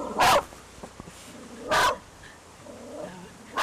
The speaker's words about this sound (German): Hund schlägt an, als ein Auto vorbeifährt.